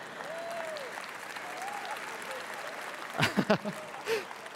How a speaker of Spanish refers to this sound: No sé por qué aplaudiste, pero verdad, gloria a Dios.